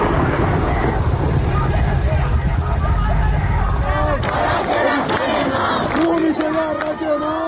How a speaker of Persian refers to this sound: در این ویدئو که از اطراف دانشگاه کردستان در سنندج ارسال شده، صدای تیراندازی و درگیری با دانشجویان به گوش می‌رسد.